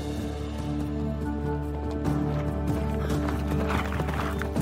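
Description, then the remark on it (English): Horses' hooves clip-clop in a steady, uneven rhythm, moderately loud, over a constant low droning background, as hunters with eagles ride back from the mountains. “The horses, hats, and eagles made them look like gods, visiting from another time.”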